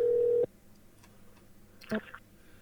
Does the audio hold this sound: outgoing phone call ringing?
yes